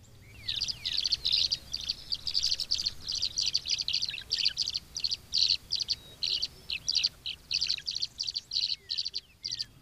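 Tree swallows chirp at the Arkansas Game and Fish Nursery Pond on Beaver Lake, east of Rogers, Arkansas, in a steady stream of quick, high, liquid twitters, bursts repeating rapidly for the whole stretch with only brief gaps, over a faint low rumble and no talking.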